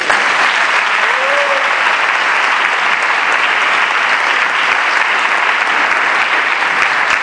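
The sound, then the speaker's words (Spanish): Sustained audience applause for the newly beatified Pope Paul VI, a dense, steady wash of clapping that stays loud and even for about seven seconds without pausing, with a faint voice briefly audible early on. “Por eso le vamos a dar un aplauso a Pablo VI.”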